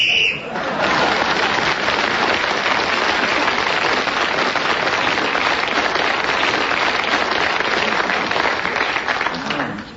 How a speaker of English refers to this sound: And so, Clement Freud, as you realise, we're speaking again as the whistle went and has increased his lead at the end of the round.